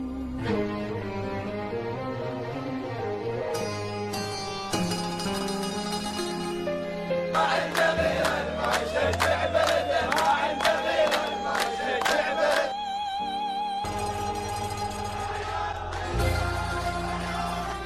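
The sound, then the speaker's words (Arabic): A large football crowd in a stadium chants in unison with sustained, tuneful voices, building midway into a louder stretch punctuated by steady rhythmic beats, then easing back to a continuous sung chant. No one speaks. “الجمهور كان حاضر في معظم لقطات هذا الفيلم، يعني لماذا هذا التركيز على الجمهور؟”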